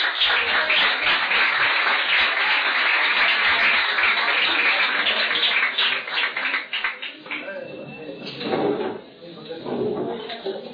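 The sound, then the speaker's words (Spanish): An audience breaks into dense, steady applause for the event poster, many hands clapping at once in a loud, crackling wash that thins out toward the end as scattered voices and murmurs take over. “Oye, hay que aplaudir el cartel, ¿eh?”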